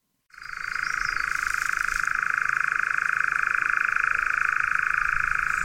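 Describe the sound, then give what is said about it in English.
A nightjar churring on heathland at dusk: a long, unbroken mechanical trill of rapid pulses, steady and fairly loud throughout, starting abruptly and continuing without a pause, with no other sounds or voices. “nothing evokes heathland at dusk like this extraordinary sound, the chirring of the nightjar.”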